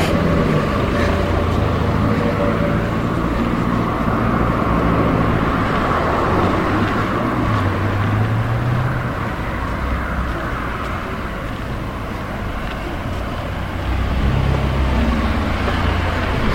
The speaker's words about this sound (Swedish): Oj, nu friskar blåsten igen också. Sista veckorna har ju blåst något febrilt.